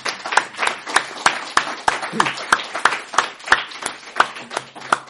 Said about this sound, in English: But please join me in giving a very, very warm round of applause to our speaker,